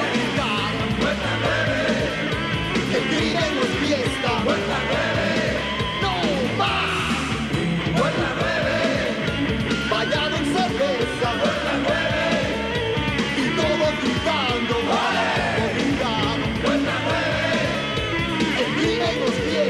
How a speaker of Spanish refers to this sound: Puerta 9, bañado en cerveza. Puerta 9, y todos gritando.